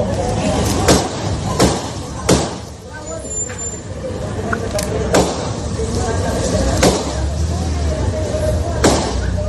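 Around six sharp gunshots crack out at uneven intervals in a fatal shooting of a 24-year-old woman in broad daylight at 9:30 in the morning, several in the first few seconds and one more near the end, each a loud, abrupt bang over a constant low traffic rumble.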